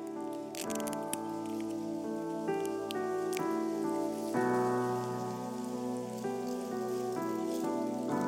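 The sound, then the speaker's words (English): Soft crinkly crackling of a sealed communion cup lid being peeled back, a few papery rustles over steady, sustained background music with held organ-like chords. “I know you've got the communion with you. So if you would peel back the top part.”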